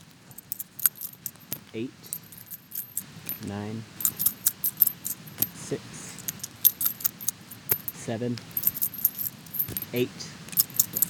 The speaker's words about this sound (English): So in honor of the weather changing, getting cooler, I decided to do a reading out of the I Ching, or Book of Changes. You roll coins and count them, and then it gives you a passage to read.